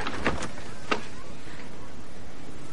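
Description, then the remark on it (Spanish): The door of a house is opened: a couple of quick latch clicks and a sharp thunk near the start, then quiet with no voices. “Abre la puerta.”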